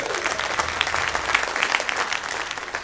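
A crowd gives a round of applause for a participant, clapping steadily in a dense burst, a continuous crackle of many hands at moderate loudness lasting a few seconds, with no one speaking.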